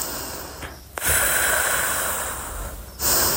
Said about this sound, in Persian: هر طور که دوست دارید روی لبه تخت یا چهارزانو روی زمین بنشینید و تمرکزتون رو بگذارید روی اینکه چطور هوا به قفسه سینه‌تون وارد میشه و چطور میتونید اون رو از قفسه سینه‌تون خارج کنید. نفسای عمیق بکشید.